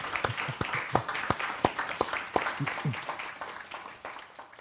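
An audience applauds with a dense, steady patter of many hands clapping, sharp individual claps popping out over the wash, gradually thinning and fading toward the end.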